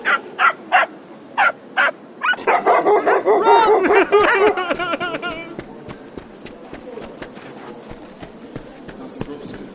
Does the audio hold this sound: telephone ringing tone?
no